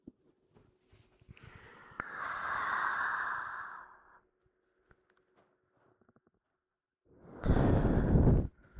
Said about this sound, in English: Sorry. I blew a little bit into your ear, didn't I? I hope that didn't tickle too much.